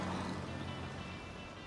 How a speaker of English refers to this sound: Wasn't that an MGA 1500? Ah, you know your cars. I like them. I love the sound they make, the way it goes right through you. Right. That vibration.